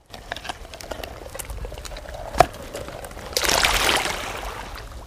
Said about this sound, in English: The only thing you can hear is the lapping of waves wash over you and other happy horseshoe crabs as you drag yourselves over one another and the sand.